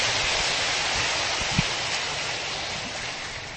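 An audience applauds in thanks for the participants' presence and sharing, a dense, steady wash of many hands clapping together, holding fairly even for a few seconds before easing off slightly at the end, with no voices over it.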